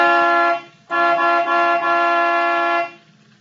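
A loud vehicle horn sounds in two blasts on a highway at a figure blocking the road: a short honk, a brief gap, then a long sustained blare lasting about two seconds, with no voices.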